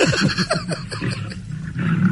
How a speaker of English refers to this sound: That's a lion. Oh, God, yes.